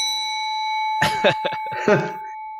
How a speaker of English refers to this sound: A very light ding echoes through the shop, and immediately the sounds from the back stop.